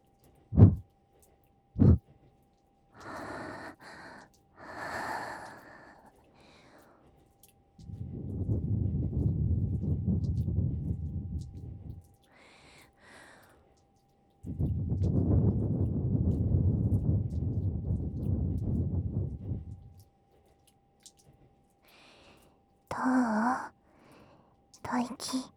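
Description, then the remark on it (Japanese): Two long, slow, hot exhalations of breath blown very close into the ear, soft and rushing, separated by a short pause, with brief faint whispers and mouth clicks before and after. “熱い吐息がお兄さんのお耳にかかってるの。”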